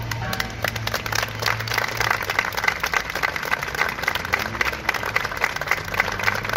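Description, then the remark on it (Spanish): A crowd applauds steadily, many hands clapping in a dense, even patter that holds at a constant loudness for several seconds without any voices, after a minute of silence outside Lorca town hall in memory of those killed in the train accident at Aldamuz, Córdoba. “El acto terminaba con ese aplauso.”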